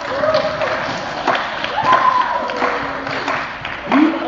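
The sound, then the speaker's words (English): An audience claps in a steady wash of scattered hand claps, with a few sharper claps popping out and voices calling and chattering through the noise. “Yeah, go ahead, clap to me.”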